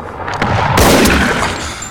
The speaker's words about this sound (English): In flashback, he's in the mist at the lakeshore. He sees Hap clearly, yanks the gun from the back of his waistband and fires.